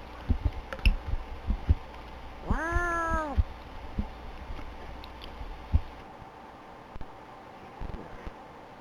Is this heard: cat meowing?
yes